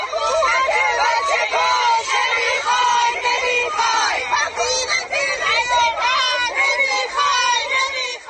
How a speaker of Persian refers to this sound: این هم گوشه ای از فریادهای اعتراضی مردم مقابل ساختمان آموزش و پرورش منطقه 2.